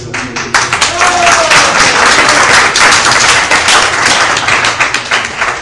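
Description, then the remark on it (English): A crowd applauds loudly, with dense, steady clapping that fills the whole stretch without a break, swelling slightly after the first second and holding at full strength to the end. “And if you know the history of ISKCON Hyderabad, then you'll clap more loudly.”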